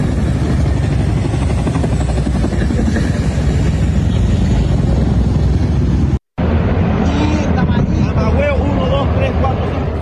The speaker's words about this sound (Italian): Altri suoni e rumori, avete sentito le pale degli elicotteri volare su Caracas?